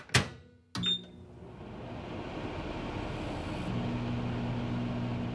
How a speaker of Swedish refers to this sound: Jag värmde kaffet i mikrovågsugnen.